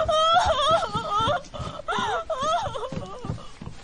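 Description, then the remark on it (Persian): A person cries loudly and continuously, with wavering, sobbing wails that rise and fall in pitch over a few seconds. “چرا اینقدر داره گریه میکنه؟”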